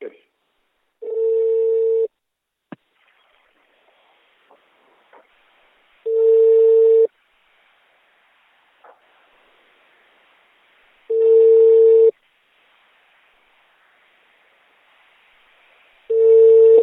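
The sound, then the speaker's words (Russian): A phone line rings out with a ringback tone: steady one-second beeps repeating every five seconds, four in all, with faint clicks and low background noise in the gaps. “Пошел дальше звонок. Пошел.”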